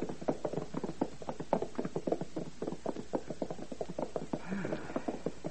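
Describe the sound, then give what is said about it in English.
The hooves of a horse ridden by a monarch clip-clop in a quick, steady trot, a continuous run of sharp hollow knocks at moderate volume with no pauses, heard on their own without any talking. “Your Majesty, the horse is becoming excited. He may run away with you.”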